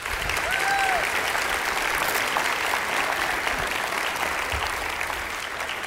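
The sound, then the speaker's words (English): Steady, dense applause from an audience as a man is called up to the front to help illustrate a Bible verse, loud and continuous with a brief whistle early on, fading only slightly toward the end. “And as he does, would you give him a big round of applause?”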